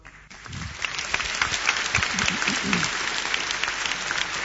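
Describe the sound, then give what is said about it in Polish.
At a prayer meeting in a church, an audience breaks into steady, sustained applause, many hands clapping in a dense, even roar that holds at a constant level throughout, with a few faint voices mixed in at the start. “Także brawo.”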